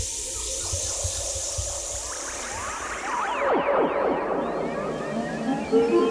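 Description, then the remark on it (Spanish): A steady wash of flowing river water, with busier gurgling and splashing swelling up midway through and continuing to the end, moderately loud, with no voices, as children swim across the river carrying stones. “Y están cruzando el río de lado a lado.”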